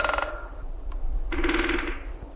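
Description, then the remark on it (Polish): Woodpeckers drum on trees in a forest in spring, in rapid, even rattling rolls: a short burst, a pause, then a longer roll that fades out, over a low steady rumble. No one speaks. “Jakbyście Państwo byli w lesie, posłuchali, jak one stukają radośnie w te drzewa.”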